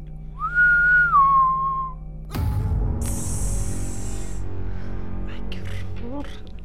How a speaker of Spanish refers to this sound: Y a lo lejos, no sabe si en su cabeza o afuera de la iglesia, el tétrico silbido.